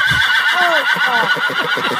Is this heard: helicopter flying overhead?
no